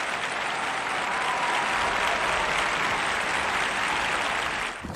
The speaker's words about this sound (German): Ja, wir können ein bisschen Applaus einblenden.